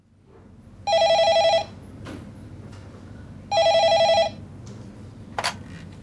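A telephone rings twice, each ring a bright, warbling electronic trill lasting under a second with a pause between, fairly loud, followed by a brief click near the end, as a call comes in to the HealthLink phone line.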